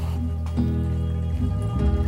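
Water pours steadily into a container holding salt and sugar to make a marinade, a continuous gurgle for a couple of seconds with a tone that shifts and rises as the vessel fills. No one speaks.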